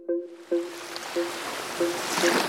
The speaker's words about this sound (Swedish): På ytan märks ingenting. Vågorna guppar lugnt mitt ute i Stilla havet.